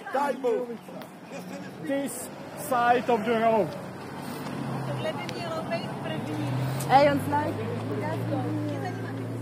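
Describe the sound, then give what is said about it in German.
Cars rush past on a country road built by Roma prisoners, a steady low engine rumble and tyre hiss that swells in the second half, running beneath a person talking throughout. “Auf der Landstraße, die die Gefangenen Roma gebaut haben, rauschen Autos entlang.”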